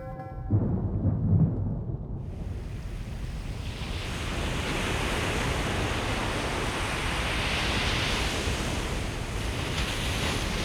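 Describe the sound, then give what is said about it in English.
A deep rumble builds into a sustained, roaring rush of water as a sky-high jet erupting from an ancient sacred well, Cantregwelod, smashes back down onto the ground and floods the land, loud and continuous with no voices. “the ancient sacred well of Cantregwelod erupts, shooting a sky-high jet of water into the air, sending an endless tower of water upwards, filling the sky, which then smashes back down onto the ground and floods the land.”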